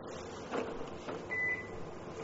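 A projector switching off: a couple of soft clicks, then a single short, high electronic beep over a steady low hum of room noise. No one speaks.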